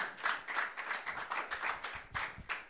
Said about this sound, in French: Mais vous applaudissez, mais il n'y a personne qui se lève. Allez. Bienvenue à vous.